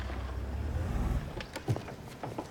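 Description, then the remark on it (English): A car engine rumbles low as the vehicle swings into the driveway of a clapboard house and rolls to a stop, then fades, followed by a few short clicks and soft thuds. “Bob swings his car into the driveway of her pretty clapboard house.”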